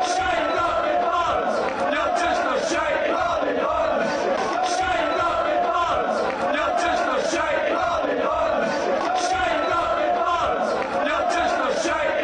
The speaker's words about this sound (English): And what do you chant at a statue of William Shakespeare when your team draws one all against an old enemy? This is what you chant.